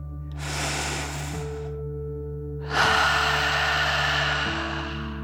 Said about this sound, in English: Breathe in through your nose, filling up your belly, and then out through your mouth, pretending you are breathing fire like a dragon. Ready? Deep breath in and out.